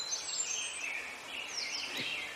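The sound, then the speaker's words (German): Birds chirping softly, a steady mix of overlapping high tweets and warbles running throughout with no pauses and no voices. “Die Vögel zwitschern.”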